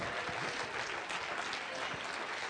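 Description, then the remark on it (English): A church audience claps hands during a sermon in a steady, dense wash of applause that stays loud and even throughout, with some crowd voices mixed faintly underneath. “Quit clapping your hands.”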